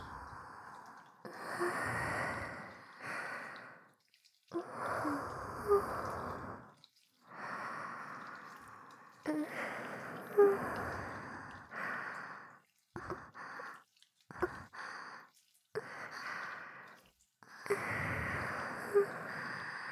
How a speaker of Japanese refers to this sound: ママたちが吐息をたっぷり注ぎ込んであげまちゅかな。